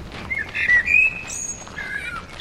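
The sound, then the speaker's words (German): Several birds sing outdoors in a garden with trees in full blossom on a spring day, high thin whistles and chirps overlapping in short phrases against a soft background hum, fairly quiet, with no one talking. “Und es hat einen Haufen Schwestern und Besucherinnen und Besucher, die auf den Bänken sitzen und an die Bäume hochschauen, die gerade in voller Blüte stehen und den Vögel zulassen.”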